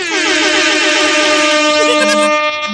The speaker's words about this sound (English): It just gets louder every time you hit the air horn button.